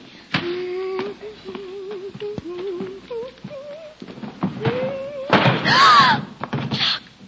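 A person knocks over a jug holding water, and it breaks. A dull thump comes first, a wavering melodic tone follows, and then a loud, bright crash bursts out near the end before fading.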